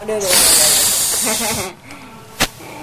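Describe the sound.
A voice imitates a hissing cockroach with a loud, sustained breathy hiss lasting over a second, followed by a few quieter vocal sounds and one short sharp burst near the end.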